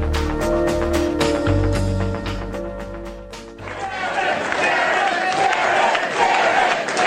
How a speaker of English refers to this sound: They're the sound of cheering, jubilant Republicans as Karen Handel entered her campaign headquarters last night in Atlanta.